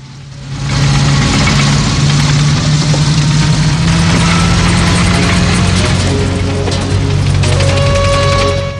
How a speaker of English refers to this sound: Outside, a tank arrives in camp. Rambo watches from the garage as it rumbles past.